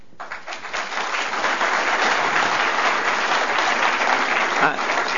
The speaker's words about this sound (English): I'm gonna come back several times, and if you clap every time, it's gonna make me really embarrassed.